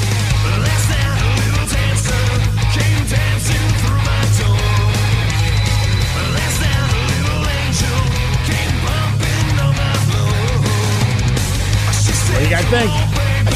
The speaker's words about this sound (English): And they did a cover, and they kind of turned the song more into like a glam metal vibe.